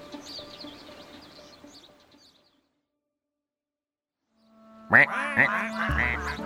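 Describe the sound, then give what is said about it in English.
Colorful ducks quack in a noisy burst near the end, following a quieter stretch of farmyard sound and a brief silence. No one speaks. “Here are some ducks. They're colorful ducks.”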